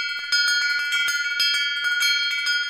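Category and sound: household object, old house bell ringing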